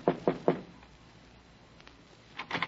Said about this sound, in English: A sad old biddy with a mop told me Condano was in his office, so I knocked on the door.